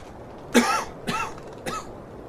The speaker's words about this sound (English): pardon me, I have to cough.